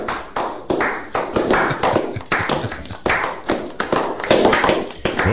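Hands clap steadily in a quick, even rhythm for several seconds, each crisp slap sounding loud and sharp, with no voices over it.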